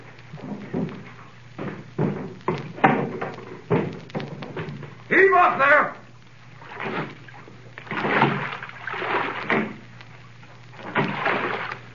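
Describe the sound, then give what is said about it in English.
A little rowing boat, with a passenger seated in the stern between two guards, moves on harbor water, with repeated wooden knocks and thuds of oars, a brief creaking squeal midway, and soft water sounds under indistinct voices. “I sat in the stern sheets with a guard on each side of me in the little boat.”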